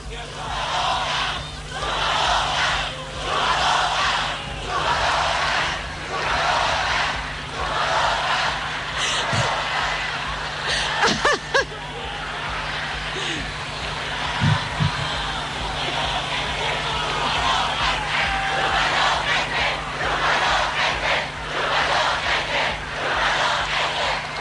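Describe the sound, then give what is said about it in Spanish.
A large crowd of supporters shouts and cheers at the closing campaign rally of ruling-party candidate Janet Jara, a dense, sustained roar of voices with rhythmic surges of chanting and a few sharp bursts cutting through. “Bien, ahí estamos escuchando los gritos de los adherentes en el acto, en el cierre de campaña de la candidata oficialista Janet Jara, quien entre risas guarda silencio un momento y ahora sigue con su alocución.”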